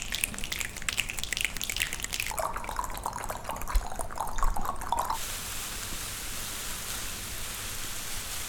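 Foley rain made from tongue clicks, finger clicks and crinkling plastic bags, a dense stream of small clicks and drips that shifts in texture midway, then settles into a soft, steady hiss.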